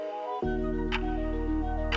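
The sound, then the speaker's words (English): A clock ticks slowly and steadily, roughly once per second, over a sustained low musical drone that swells in after a brief moment of silence. No one speaks. “So the clock was moved forward 30 seconds.”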